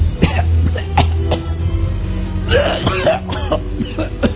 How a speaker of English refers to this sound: Death walks in and hovers over the bed of King Hezekiah. He lays coughing, choking upon his sickness.